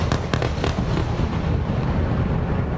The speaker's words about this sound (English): Explosions heard through the night. Gaza firing airstrikes towards Israel as Israel upped its offensive against Gaza, hitting from air, land, and sea.